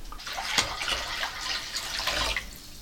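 Running water pours steadily into a basin for a foot bath in a work flat in Berlin-Kreuzberg, a broad splashing rush with small sloshes and gurgles, no voices.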